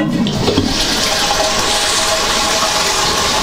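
toilet flushing

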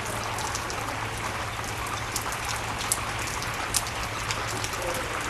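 rain

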